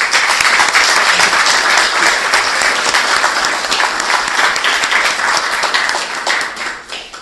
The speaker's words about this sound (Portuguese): Se estão de acordo, então, se sendo, eu proponho uma salva de palmas.